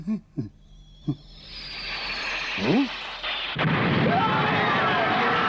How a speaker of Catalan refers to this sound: Diversos projectils impacten contra la sala. La gent fuig espaordida.